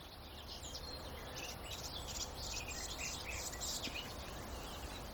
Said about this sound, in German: Auf der rechten Seite von mir aus sowas plapperndes, zwitscherndes, palaverndes. Ja, die Palaver-Grasmücke könnte man auch sagen, ist die Gartengrasmücke. Die halt nicht in diese hohen, pfeifenden, edelstahlähnlichen Höhen kommt